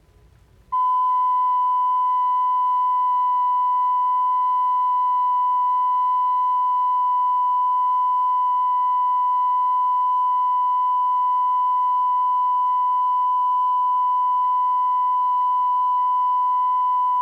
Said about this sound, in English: Here is a 1,000 cycle tone recorded at less than 1% distortion.